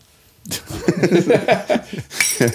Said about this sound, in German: Ja, nee. Klingt nach Kaffeetasse.